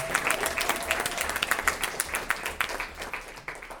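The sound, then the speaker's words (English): A crowd at a meeting claps in a round of applause for the RAs, many hands producing a dense, crackling patter of sharp claps that holds fairly even in loudness for several seconds, with no voices rising above it. “Can we really quickly get a round of applause for all the RAs?”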